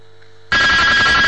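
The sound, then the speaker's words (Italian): After a moment of faint hum, a telephone suddenly starts ringing, loud and shrill, with a steady piercing tone that continues to the end. No one speaks. “E le facciamo sentire un attimo il suono un'altra volta, un attimo, Sì.”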